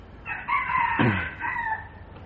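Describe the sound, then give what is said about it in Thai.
A single rooster crows once, a loud drawn-out cock-a-doodle-doo lasting about two seconds, clear with no one talking over it; it is one of several chickens left with the speaker to raise, which often crow onto the tape recording. “เรามีไก่เข้ามาทิ้งหลายตัวให้เลี้ยงขันเข้าเครื่องอัดเทปนี้อยู่บ่อยๆ”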